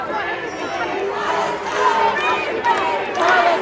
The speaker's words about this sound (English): As chants filled the main hall of the Liverpool Street station, some of the commuters rushing home in the evening peak shouted with anger at protesters holding Palestinian flags.